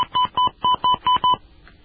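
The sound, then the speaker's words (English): A quick, evenly paced series of six touch-tone keypad beeps, each a short clean dual-tone chirp, as a phone number is punched in for an automated registration line, followed by near silence. “Beginning with the area code, please enter your 10-digit phone number.”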